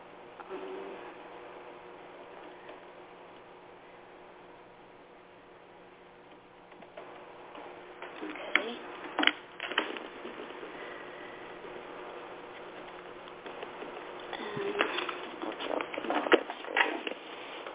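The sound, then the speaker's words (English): Tarot cards being shuffled: after several seconds of near silence come two bursts of quick, papery flicking and patter, soft and unaccompanied by any voice. “I'm going to shuffle the cards for you.”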